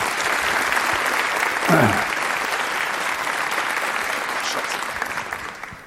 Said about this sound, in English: Please welcome, with a very warm applause, Julian Oliver and his server infrastructure for Global Rebellion talk.